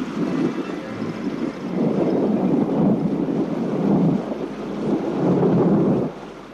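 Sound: rain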